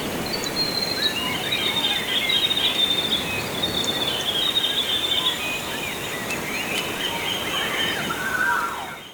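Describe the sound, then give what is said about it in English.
High, thin bird calls chirp repeatedly over a steady outdoor hiss like insects or running water, a continuous natural soundscape with no voices, from an album, birdsong and nature recordings made over 30 years by Waiheke musician and engineer. “In this hour, we're featuring the album …, recordings of birdsong and nature made over a 30-year period by Waiheke musician and engineer ….”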